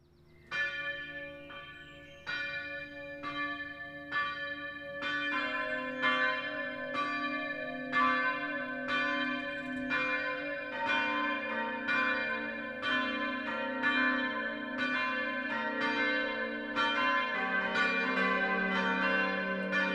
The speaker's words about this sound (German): Es ist 12 Uhr. Das Mittagsläuten kommt heute von der evangelischen Stadtkirche St. Marien im mittelfränkischen Gunzenhausen.